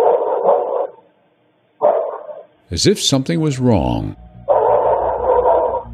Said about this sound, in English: A dog began to bark,